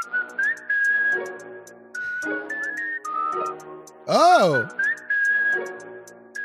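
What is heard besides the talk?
whistled jingle melody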